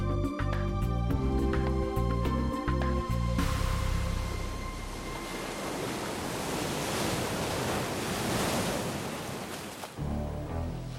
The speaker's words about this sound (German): Wind, Wellen, Haie. Das Surferparadies am Kap der Guten Hoffnung.